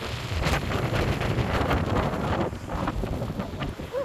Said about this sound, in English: Oh my gosh, let me tell you about Patagonian wind. It's not just wind, it's a force of nature that shapes everything here. Picture this, We're standing at this gorgeous turquoise waterfall.